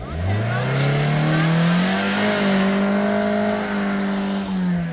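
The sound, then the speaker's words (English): A Toyota car engine revs hard and loud as the driver tries to get the car out of a ditch, its pitch climbing steeply and then holding at a high, strained whine for several seconds, with no one speaking. “Then the administrator took the wheel, and in a display of bravado or unfamiliarity with a clutch, he revved the engine furiously.”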